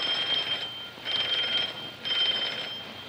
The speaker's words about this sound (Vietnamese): Ủa, nửa đêm mà có ai nhận chuông vậy bay?